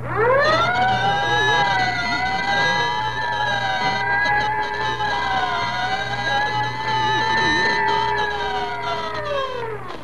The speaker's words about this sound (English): Whenever you hear the siren and bell, think of Texaco Fire Chief gasoline.